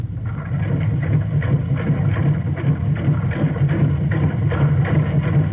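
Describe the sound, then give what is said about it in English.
An oil well drilling rig runs steadily while drilling, its heavy engine droning low with a rhythmic, chugging knock repeating several times a second, loud and continuous with no voices. “Ah, that's sweet. She's drilling sweet. That check valve works.”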